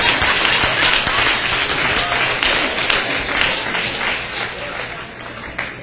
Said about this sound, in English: I was the captain of the only championship football team Reseda High School ever had. Give me a hand clap. Thank you.